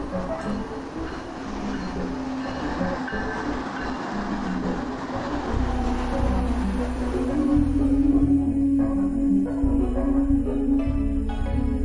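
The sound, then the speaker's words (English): A train rolls along the rails, a steady metallic ringing hum riding over a deep rumble that swells louder partway through. No voices are heard. “Can you hear the ringing on the rail?”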